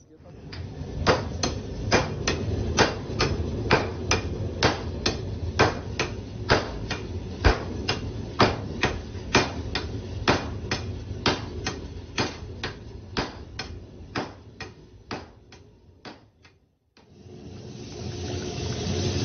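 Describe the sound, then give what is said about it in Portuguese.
Artisanal hand hammering by a rudimentary method, done with a hammer rather than modern tools, beside a furnace with a very strong fire: sharp metallic blows falling in a steady rhythm of about two per second over a constant low roar, then stopping abruptly near the end. “Não tem muita coisa moderna, é no martelo mesmo. É um método bem rudimentar.”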